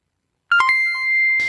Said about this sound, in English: Yeah, that I don't think, well, you guys did hear that beep. That beep is stars on Facebook. I guess they're still on, but.